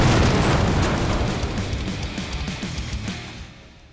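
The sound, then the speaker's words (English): A loud explosion sound effect erupts right away, followed by a rumbling, crackling roar that slowly fades out over a few seconds, with no voices present. “I don't know what makes canoeing extreme, but I assume it must have explosions!”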